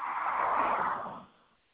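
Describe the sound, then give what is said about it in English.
A car swishes past in a steady rush of road noise that fades out after about a second, heard over a thin, muffled phone line with no voices. “Sound like I hear some cars going by, but I don't hear no voices going.”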